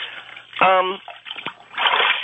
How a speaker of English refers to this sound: Well, it sounds like you're distracted by something as I hear you splashing around. What I'm doing to help myself think is I'm just hitting the water with my hands.